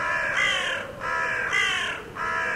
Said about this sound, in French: Il vivait dans un nid situé dans un massif rocheux où régnait un silence de plomb. Seuls quelques sons d'oiseaux venaient parfois troubler ce silence paisible.